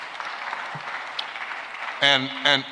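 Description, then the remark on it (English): A crowd claps in a steady, dense wash of applause for about two seconds before a man's voice cuts in and speaks over the fading clapping. “And so all the white folk can clap.”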